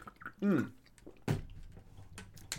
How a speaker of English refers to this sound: I need a swig of this. That was amazing. And I need another swig of water to wash it down.